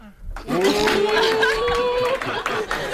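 A burst of audience applause with cheering, given as the audience's verdict on a contestant's drawing in a modern-tongue drawing contest, starting abruptly and holding steady and dense for a couple of seconds, with a sustained whoop riding over the clapping.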